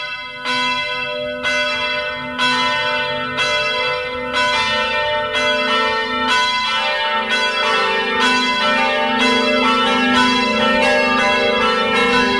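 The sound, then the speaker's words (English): Church bells peal in a steady, overlapping sequence, each strike ringing out with rich harmonic overtones that sustain and blend into a continuous loud, resonant wash with no voices, introducing a studio segment called Smells and Bells. “We are so glad to have him here back in the studio and grateful that he comes each month to give us liturgical updates with this segment that we call Smells and Bells.”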